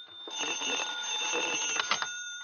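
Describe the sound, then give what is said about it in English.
A telephone rings with a continuous shrill, high-pitched trilling tone that holds steady for a couple of seconds, fairly loud and with no voices over it. “We'll answer the phone together.”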